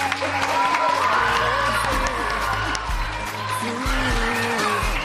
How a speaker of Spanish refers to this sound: Un fuerte aplauso.